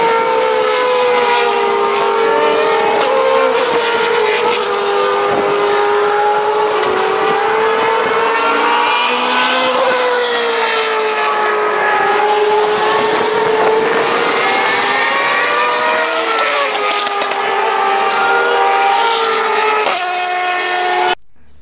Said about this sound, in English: Sorry, I hope that didn't sound to you like a siren, because it wasn't. It was Formula One race noise. And we're having 2 days of Formula One demonstrations or whatever.